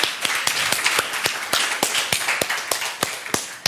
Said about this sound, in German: Super, vielen lieben Dank an die Gruppe. Auch für euch habe ich noch eine kleine Frage. Aber erstmal holt ihr euch einen kleinen Applaus für eure Präsentation ab oder auch einen großen Applaus.